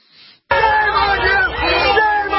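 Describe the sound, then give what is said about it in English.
A large crowd shouting and yelling together at a protest outside the front door of the Adamson Barbecue restaurant as its owner is taken away by police, a loud, sustained roar of many overlapping voices that bursts in after a brief faint murmur and a moment of silence. “After the owner of Adamson Barbecue was taken away, the crowd grew even larger.”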